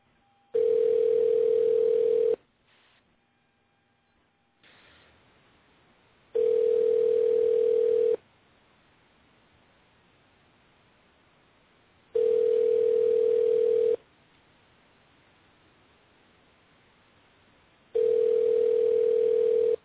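A telephone ringing tone from an outgoing call placed live on air: four long, steady, mid-pitched buzzy rings, each lasting under two seconds, separated by regular pauses of several seconds. Nobody speaks.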